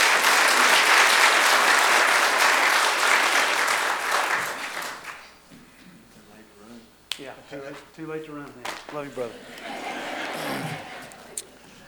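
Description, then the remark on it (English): A church audience bursts into loud, dense applause for a man about to give his testimony, rolling steadily for about five seconds, then fading as a man begins speaking over the last scattered claps. “Y'all give him a round of applause, please.”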